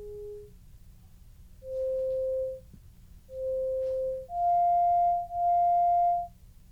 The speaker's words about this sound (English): Wolf created an algorithm that generates both happy and sad sounds with a mix of beeps and chirps. So here's our sad sound.